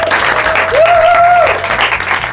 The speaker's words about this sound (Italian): Grazie, grazie a tutti. Fatevi un applauso, gruppo volume.